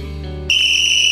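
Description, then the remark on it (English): A loud, shrill whistle is blown in one sustained blast that starts abruptly partway through and holds steady to the end, following a brief stretch of low background hum. “blow the whistle.”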